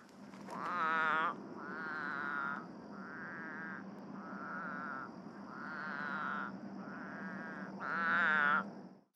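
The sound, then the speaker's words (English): A North American spadefoot toad croaks in a steady series of about seven loud, nasal, bleating calls, each under a second long, over a constant faint background hum and high whine. “This is the croaking of the North American spadefoot toad, which, like its name suggests, lives here in North America.”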